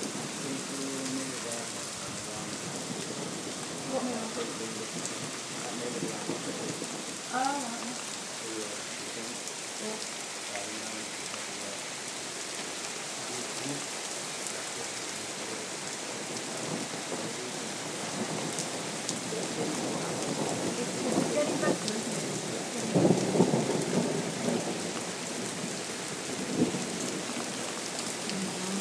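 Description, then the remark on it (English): Heavy, torrential rain pours down in a steady roar, heard from a back door during a storm with wind and lightning, with deep rolls of thunder rumbling through it and swelling louder toward the end. “It is now torrential. We're now still at the back door because the wind was hurling it at the front door and it was unbelievable.”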